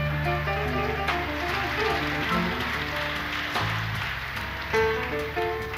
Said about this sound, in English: How about a nice round of applause for the band? Let's give it to them, all right?